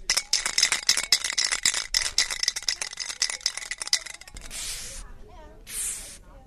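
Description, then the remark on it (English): A spray paint can is shaken hard for several seconds, its mixing ball clacking in a fast, steady rattle, followed by two short, loud bursts of hissing spray as a graffiti artist sprays the rough outline of a woman's face for a wall mural. “Pamela starts by spraying a rough outline of a woman's face.”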